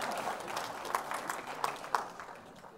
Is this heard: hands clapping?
yes